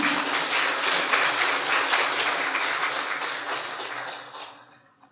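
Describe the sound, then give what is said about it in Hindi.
An audience applauds for themselves, many hands clapping in a dense, steady patter that holds strong for about four seconds before fading away. “तो आप अपने लिए ताली बजाएं।”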